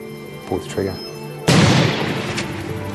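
A single loud gunshot cracks out midway, its booming blast ringing and slowly fading over the following seconds, after a stretch of quieter background with faint murmuring.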